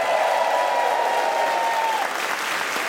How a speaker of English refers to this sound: Can we have a huge round of applause, please, for John Robbins and Frank Zappa?